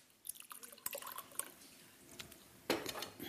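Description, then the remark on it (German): Water is poured into lemon juice for a white cabbage salad dressing in a few short splashy bursts with dripping, followed by a brief louder gush near the end. Fairly quiet, with no one talking. “Dazu brauche ich Wasser. Und zwar, ich nehme so viel Zitronensaft, so viel Wasser.”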